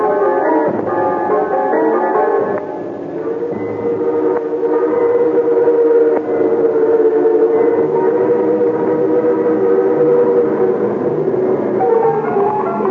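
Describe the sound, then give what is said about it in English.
A steam train rushes along the rails, a loud, steady rumble layered with sustained, whistle-like tones that hold and shift in pitch throughout, with no voices. “The train rushed on at an awful pace, and sulfur fumes burned hand and face.”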